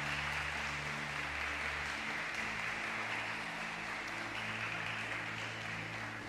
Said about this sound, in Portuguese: Você que crê, diga amém. Diga graças a Deus. Dê a melhor linda salva de palmas para Jesus.